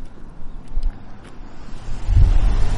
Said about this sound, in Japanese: 車が今来た。